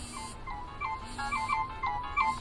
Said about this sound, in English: Now one of the things that's kind of cool too is you can actually send MP3 files over to this to be your ringing tone.